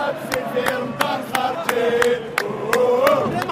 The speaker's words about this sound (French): Sur la rue d'Idouche Mourad, la foule est moins compacte que d'habitude, mais les manifestants chantent que rien ne les arrêtera, même pas le ramadan.